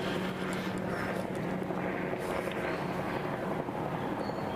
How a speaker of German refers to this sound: Ich merke doch bereits Hubschrauber, auch wenn ich keine Ahnung habe, wo der ist. Ganz davon abgesehen, dass hier Bäume sind. Dass der also auch irgendwie einigermaßen fast über mir schweben könnte, ohne dass ich ihn sehen würde.